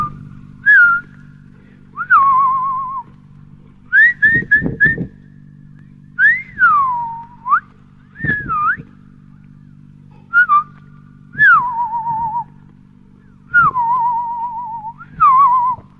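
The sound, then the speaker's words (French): The artist and poet Robert Filliou, a Fluxus figure, whistles in imitation of birdsong in a 1979 recording, repeating short chirps and sliding, warbling phrases around a steady high pitch, with brief pauses between phrases and a low hum underneath. “C'est très bref, c'est Robert Filliou, l'artiste et poète, la figure de Fluxus, imitant le chant d'un oiseau, on est en 79.”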